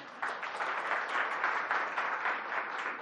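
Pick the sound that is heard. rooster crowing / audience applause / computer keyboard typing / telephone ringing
audience applause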